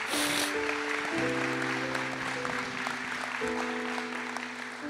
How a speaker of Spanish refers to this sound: Muchas gracias. Y le damos un aplauso, ¿verdad?